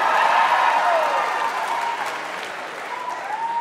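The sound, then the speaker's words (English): An audience claps steadily and densely in response to a call for a round of applause, with a few whoops and cheers rising over the applause, which stays loud and full before easing slightly toward the end. “Round of applause if you smoke weed to deal with anxiety.”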